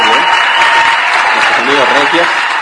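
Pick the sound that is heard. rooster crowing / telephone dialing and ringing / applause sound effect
applause sound effect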